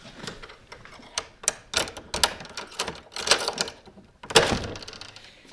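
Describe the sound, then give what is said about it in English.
A skeleton key rattles and scrapes in the old lock of the door to an estate's tower, making a run of irregular metallic clicks and clunks before the bolt turns, with no voices. “He uses a skeleton key to unlock the door.”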